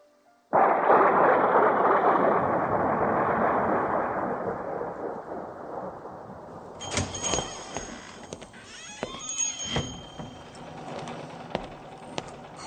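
A sudden heavy roar of rain at a fabric shop bursts in and fades slowly, followed by scattered sharp clatters and thumps with some faint voice-like sounds.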